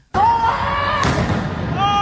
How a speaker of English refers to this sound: We can also hear the moment the firework went off.